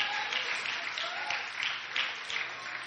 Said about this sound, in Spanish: Oh, dele ese aplauso al Padre, al Hijo y al Espíritu Santo.